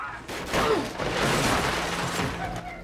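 A gunshot, fired by a man inside a dimly lit apartment, bursts out abruptly, followed by a dense, noisy roar and rumble that carries on at steady loudness for a couple of seconds before trailing off.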